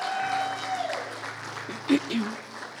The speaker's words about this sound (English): Come on, give them a round of applause today.